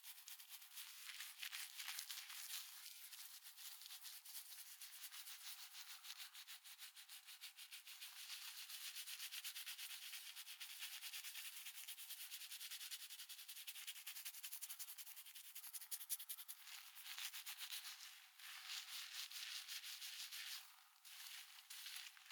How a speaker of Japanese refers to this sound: どう？ママのシャンプー気持ちいい？人に髪を洗われるのって気持ちいいよね。ワンちゃん洗ってるみたい。